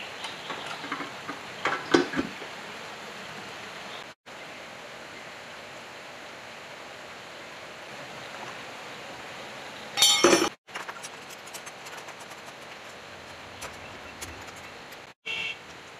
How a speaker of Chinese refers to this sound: 然后这个剪要竖着才能卡在这个槽里面。